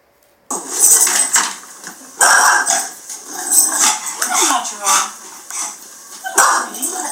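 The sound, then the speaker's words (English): A dog barks loudly in a run of sharp, repeated barks spaced about a second or so apart, with some clattery background noise in between. “But you can see he's got the and stay out by his bark, you know.”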